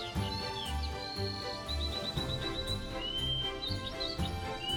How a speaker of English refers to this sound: I find myself drawn to the early sunrise, the fresh air, and songs from the birds.